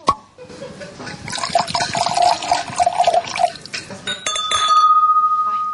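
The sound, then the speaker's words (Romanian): A bottle of 1989 red Merlot wine being opened with difficulty, with several seconds of busy scraping and glassy clinking, ending in a brief ringing glass tone and a steady sustained note. No one speaks. “Se deschide greu sticla de vin.”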